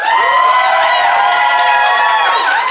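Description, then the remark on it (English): A live audience in Phoenix responds with loud, sustained cheering and applause, voting for one side by applauding, whooping voices rising and falling over a steady roar of the crowd for about three seconds. “Now, instead, I'm going to throw it open to our live Phoenix audience.”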